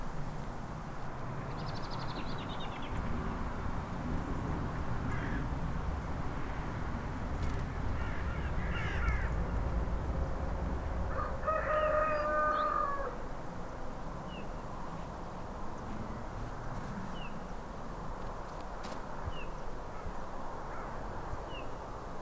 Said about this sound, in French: Peu à peu, le jour se lève et avec lui les oiseaux courageux qui ne fuient pas vers le sud à la première gelée.